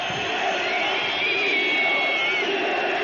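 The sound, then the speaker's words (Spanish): A stadium crowd whistles loudly and continuously in protest at Agapito and the Fundación, demanding resignation: a dense, shrill mass of high whistles with a steady roar underneath and no break for the full three seconds. “Y ya sabéis que ponemos siempre en el minuto 32 los pitidos a Agapito y a la Fundación.”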